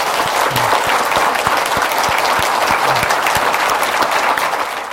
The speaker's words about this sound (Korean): 이 선교사님 부부께서 카자흐스탄에서 하나님께서 원하시는 일들을 정말 많이 이루시고 많은 생명들을 구원하시고 행복하게 해주실 수 있도록 우리 다시 한번 박수 한번.